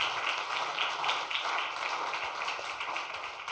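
An audience applauds: a dense, steady patter of many hands clapping at once, fairly loud and even, with no voices over it.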